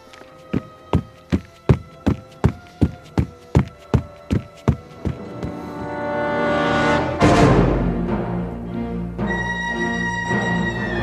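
A quick run of about a dozen heavy, evenly spaced footsteps thuds as a sheriff's deputy rushes out of a cabin toward the river, then gives way to a rushing burst of noise and a swelling musical drone.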